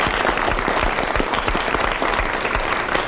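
An audience breaks into a steady round of applause, dense overlapping claps sustained at a fairly loud, even level throughout, with no voices coming through.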